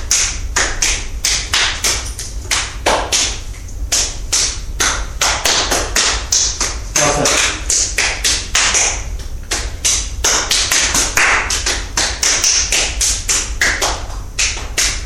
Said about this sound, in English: Now... this is just part of the clap exercise. You know the clap exercise where you pass the clap round the circle and then back the other way. We're just going to pass it one way. Clap goes round.